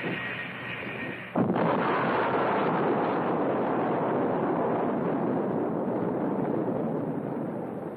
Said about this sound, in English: A nuclear bomb could cause a blast like that. You're right. It was one of those jets we saw.